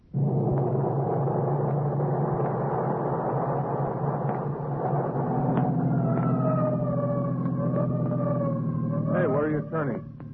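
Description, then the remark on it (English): A loud emergency vehicle siren wails over a heavy engine rumble, its tone sliding up and down and sweeping sharply upward near the end. “But why this siren?”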